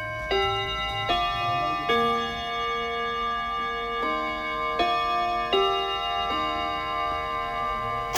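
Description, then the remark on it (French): Radio Bonheur's hourly time chime marking 8 p.m.: a melodic run of about seven bright, bell-like notes, each struck cleanly and left ringing, played alone at a steady, moderate level. “Au carillon de Radio Bonheur et sur les montres qui marchent, il est 20h.”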